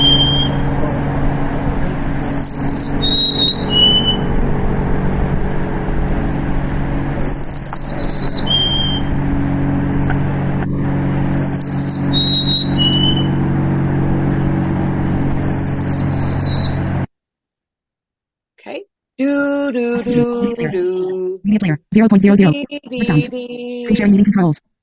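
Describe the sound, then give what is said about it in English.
A golden-crowned sparrow repeats its clear, high, descending whistled song, remembered as 'I am leaving', several times over a steady low rumble of traffic, followed by a person talking at the end. “So let's hear the golden crown sparrow. This is a whistler.”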